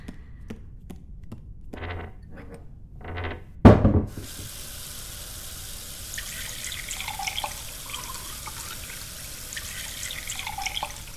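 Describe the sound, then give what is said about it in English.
A few small clinks and drips, then a tap bursts on and water runs steadily and fairly loudly into a sink, splashing continuously until the end. “You want some water? You're probably really dehydrated.”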